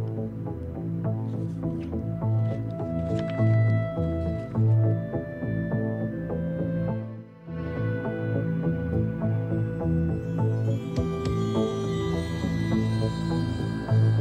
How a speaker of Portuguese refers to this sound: e, portanto, para lhes render e fazer homenagem, a próxima música que vamos ouvir é da sua, não digo bem autoria, mas interpretação